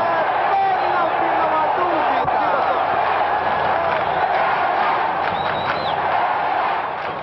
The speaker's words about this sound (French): La foule gronde.